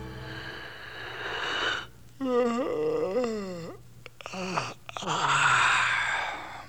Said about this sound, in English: It wasn't long before he heard a yawn.